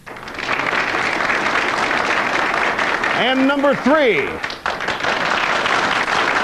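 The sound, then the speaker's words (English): A steady, dense wash of audience applause fills the whole clip at high level, an applause-meter vote for option number one of three Bill Clinton looks, while a man's voice briefly speaks over it partway through. “Number one, can we hear some applause?”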